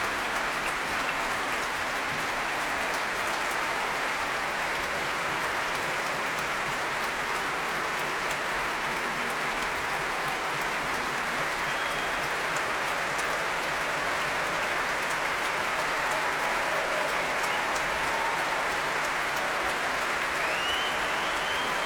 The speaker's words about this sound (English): Edward Gardner returning to the podium now. And that extraordinary applause is for the principal flautist tonight, Daniel Palethorpe, who plays a really rather wonderful flute.